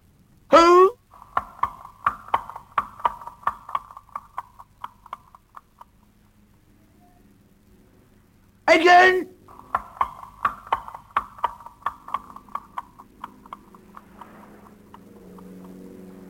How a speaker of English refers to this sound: I mention it because the sound is so strange, so unlike the sound of the sea, that if you didn't see what it was, you wouldn't know what it was. Hooves.